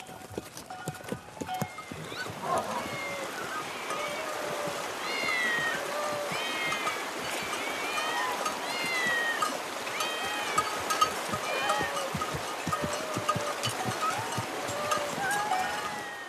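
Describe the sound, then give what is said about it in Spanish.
A crowd of cats meows continuously in the Egyptian city of Bast, overlapping cries rising and falling from several directions at once, with a steady bustle and what sounds like hoofbeats clopping underneath. “¿Y qué hacen tantos gatos aquí?”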